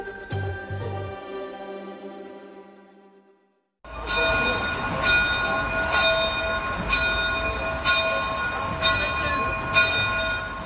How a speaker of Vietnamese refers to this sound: Tại nhà thờ chính thống giáo ở Melbourne, tiếng chuông vang lên cho thánh lễ lúc nửa đêm.